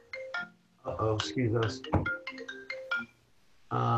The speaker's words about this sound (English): Oh, sorry about that. Some phone came in.